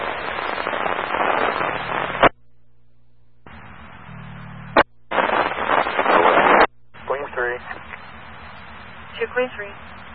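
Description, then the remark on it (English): Fireworks crackle and pop in loud, noisy bursts at the scene of an accident, with a couple of sharp bangs standing out, heard through a scratchy radio channel with brief gaps of silence between bursts. “There's fireworks at our accident.”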